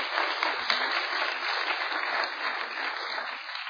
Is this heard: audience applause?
yes